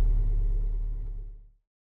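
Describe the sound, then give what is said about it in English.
A low, steady car engine rumble idles for about a second and a half in slow city traffic, queued at traffic lights, then cuts off abruptly. No voices are heard. “Sorry, it's just so slow. I hate driving in the city.”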